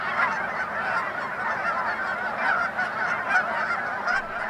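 A large V-shaped flock of Canada geese migrating overhead honks continuously, many overlapping calls forming a dense, steady chorus with no pauses.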